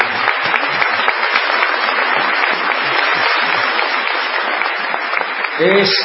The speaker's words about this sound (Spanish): Así que por ahí también aplaudamos al querido nene.